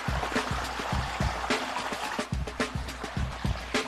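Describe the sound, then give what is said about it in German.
Water runs and splashes steadily from a hole in a hose during a THW water-treatment exercise, with irregular gurgling bursts and soft thumps over a constant hiss, and no one speaking. “Oh nein, da ist ein Loch im Schlauch! So, jetzt läuft's.”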